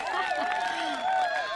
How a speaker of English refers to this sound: Now you can hear that huge crowd. They're banging in the door. Massive.